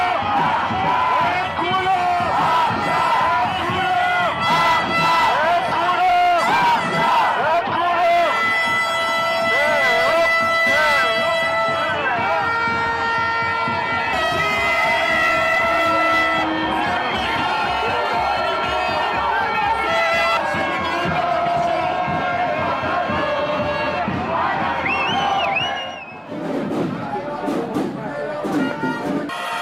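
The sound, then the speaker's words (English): A large crowd at a demonstration, with some violence, calling for the return of hostages and protesting Netanyahu's conduct of the war, shouts and chants continuously, a dense roar of many voices with high whistles and cries layered over it, loud throughout with a brief dip near the end. “So a large demonstration, clearly some violence.”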